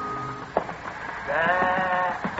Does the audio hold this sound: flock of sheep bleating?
yes